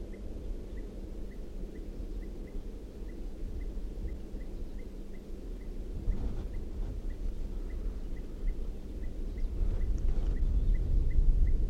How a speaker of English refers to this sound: And I think I hear a crossbill. I think I did hear a crossbill calling. I do hear a type 2 crossbill calling from down the hill.